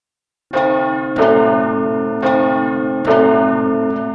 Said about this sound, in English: At the ball, Cinderella is the most beautiful girl. The prince is dancing only with her. Suddenly, she can hear a clock.